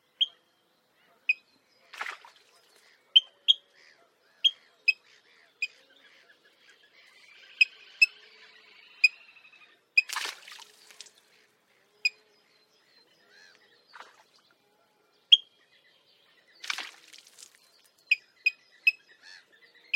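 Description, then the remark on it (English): A suddenly alarmed bird repeats short, sharp 'pick' alarm calls at irregular intervals, clear, with a few louder splashy bursts of water from splash dives in between. “When suddenly alarmed, they will utter a short pick, often accompanied by an impressive splash dive, the bird emerging some distance away, perhaps as a distraction display.”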